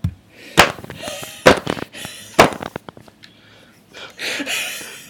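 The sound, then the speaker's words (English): Three sharp, loud hand claps land about a second apart, each a crisp slap-like crack, followed by fainter clicks and a soft breathy rustle toward the end. “I'll do the clap.”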